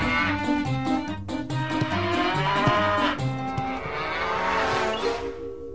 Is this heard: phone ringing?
no